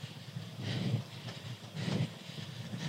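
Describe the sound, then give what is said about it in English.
A small electric seaside train of the Volks Railway rumbles past a nudist beach, a steady rolling clatter that swells twice, with breezy outdoor hiss underneath and no voices. “That's the Volks Railway. Going past the nudist beach.”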